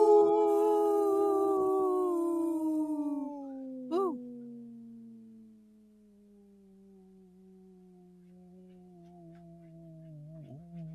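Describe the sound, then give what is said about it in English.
A person imitates a wolf howl with one long, sustained, wavering note that slowly slides downward in pitch and fades gradually over about eleven seconds, loud, with no talking. “Very strong, healthy wolf right there. That's a long breath.”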